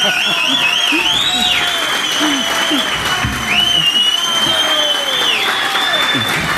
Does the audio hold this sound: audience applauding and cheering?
yes